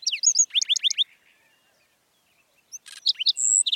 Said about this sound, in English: a handsome bird greets the new day. It's a black-throated sparrow, an iconic desert denizen of the southwestern U.S. and northern Mexico.